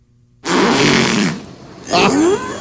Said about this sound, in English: This is supposed to be a killer whale talking.